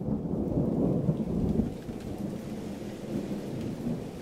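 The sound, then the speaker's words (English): A thunderstorm with heavy rain pouring steadily while deep thunder rumbles low and continuous, slightly louder at first then settling into a constant roar. No voices. “Tookie sat on the porch of his shotgun house, watching the rain fall sideways.”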